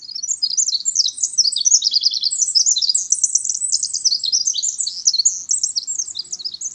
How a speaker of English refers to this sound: Pausing from this robust song, the winter wren hops onto a log deep in a moist conifer forest.